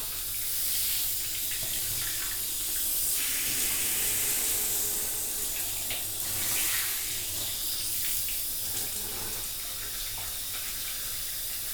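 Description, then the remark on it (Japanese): Steady running shower water sprays and splashes continuously, a broad hiss with soft fluctuating patters as it rinses through hair, with no voices. “シャワシャワもうちょっとで終わるよ。”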